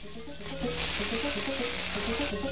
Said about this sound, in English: A switch is flicked and a metal spool starts spinning.